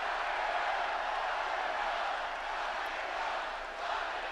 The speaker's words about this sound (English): If you're not hearing that clearly, the crowd was chanting, "Lock him up."